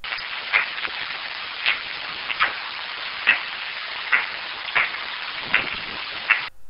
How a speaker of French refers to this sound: les chauves-souris sont des animaux très sociaux. Et leurs sons vont changer donc quand ils sont en société. Voilà par exemple ici les cris sociaux des pipistrelles.